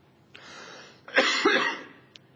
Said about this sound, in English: Excuse me. Thank God I am healed. I probably hadn't coughed for a week as much as I coughed here in the last 10 minutes.